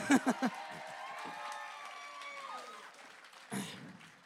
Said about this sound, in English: Wow. Wow. Everyone applaud